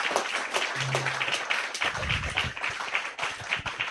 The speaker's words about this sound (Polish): Proszę państwa, poproszę o brawa, bo pierwsza część naszego spotkania dla pana doktora Leszka Sykulskiego.